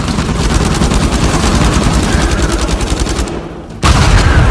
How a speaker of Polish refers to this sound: Po raz pierwszy doceniłem wybuchające mumie Avery'ego.